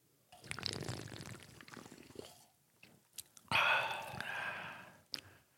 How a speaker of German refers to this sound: jemand, der uns zugehört hat, ich nenne jetzt keine Namen, hat gesagt, er kriegt immer richtig Bock, wenn er das Zischen der Dose hört und uns schlürfen hört, hat er richtig Bock auf eine kalte Dr. Pepper. So, ich mach's nochmal.